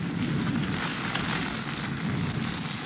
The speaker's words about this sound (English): Raining. Is that rain? I thought somebody was holding a fire hose over my head. Jungle rain come fast. Rain very hard, then go fast.